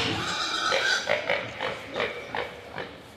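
Pigs in show pens at a pig competition grunt and snuffle repeatedly, a string of short, rough bursts coming every half second or so over a low background hum, with no one speaking.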